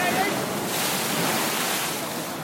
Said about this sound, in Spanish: ¡Agua! Pero de todas formas, vamos a estar más arriba, que rompen las olas en toda la roca.